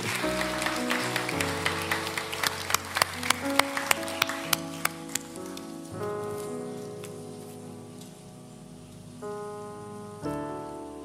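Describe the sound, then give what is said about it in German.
Crowd applause for the Matthäus kindergarten team during a blessing of children, a dense patter of clapping with a few sharper individual claps, fades out over several seconds while steady music with sustained chords continues underneath. “Ein Applaus für euch.”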